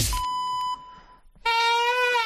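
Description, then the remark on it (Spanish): A hoarse chifla whistle signal opening the Agropopular radio programme: a thin steady high tone for about a second, a brief gap, then a louder, lower, buzzy whistled note that holds with a slight waver until the end. “Nos ha quedado hoy la chifla un poco afónica.”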